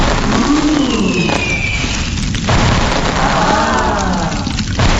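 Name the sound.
fireworks exploding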